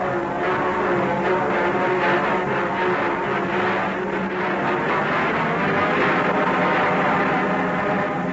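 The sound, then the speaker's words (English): A massive passenger train rolls in steadily, its continuous heavy rumble layered with a droning mechanical hum that holds at an even loudness throughout, with no voices. “The train rolls in.”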